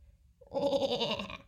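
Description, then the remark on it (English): A black sheep bleats once, a single wavering baa lasting about a second, fairly loud, with no talking over it. “Black sheep, what do you see?”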